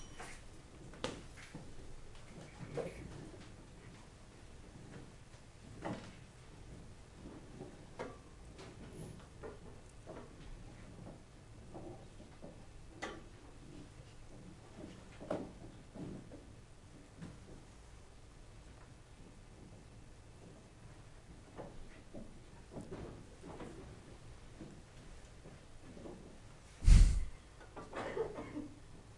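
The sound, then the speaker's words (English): Many people stand, push their chairs back in, then pull them out again and sit down, trying to make no sound: soft, scattered scrapes and knocks amid a hush, with one sharper, louder clunk near the end. “Put your chair back in, and then put your chair out again and sit down. And try to do it without a sound.”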